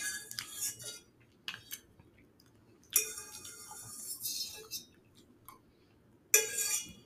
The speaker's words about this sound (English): I'm sorry. I am still eating these. I'm pretty sure my ex-roommate would probably, like, hear me eating out of the pot and would, like, want to slap me silly or something.